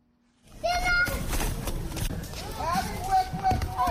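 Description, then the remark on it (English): Children shout and call out during an outdoor soccer game with neighborhood children in front of a house in a community on the outskirts of Monrovia, Liberia, with scuffling footsteps and thumps over a steady, busy open-air background. “sits in front of his house in Liberia's cow feed community in Pinsville, on the outskirts of Monrovia, watching his kids play soccer with other neighborhood children.”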